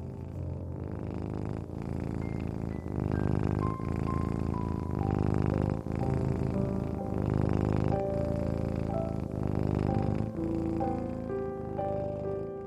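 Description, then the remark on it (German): A cat curled up on a person's belly purrs steadily for the whole stretch, a continuous low rumble with soft, gently shifting melodic tones floating above it and no talking. “rollt sich direkt auf deinem Bauch zusammen und schnurrt.”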